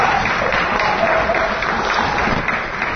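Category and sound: crowd, audience applause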